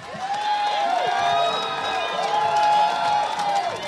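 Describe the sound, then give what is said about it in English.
A large crowd cheers and whoops loudly and steadily at a Democratic rally for John Tester in a packed auditorium at the University of Montana in Missoula, with high shouted voices rising and falling over a dense, sustained roar of many people. “But Democrats hardly seemed disappointed at a rally last night for John Tester in a packed auditorium at the University of Montana in Missoula.”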